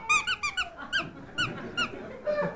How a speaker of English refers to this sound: It's a little squealer. But now, this is a puppy dog chewer, you know, and it has this noise.